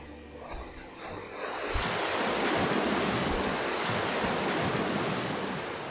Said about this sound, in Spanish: Nuestra casa estaba a pocos metros del mar y sus olas rompían en una barra rocosa dejando un sonido diferente según los oleajes.